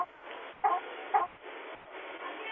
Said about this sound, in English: I work at KFC, and we have the chickens in here. And there's birds. There's birds.